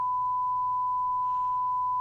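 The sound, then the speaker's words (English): A steady, pure electronic censor bleep tone holds unbroken for about two seconds at moderate loudness, with a faint low hum underneath and no voices audible. It covers a woman's insult to an officer in footage of security removing her from a plane. “The part that was blanked out was when she called them psycho black ass motherfucker at one of the officers.”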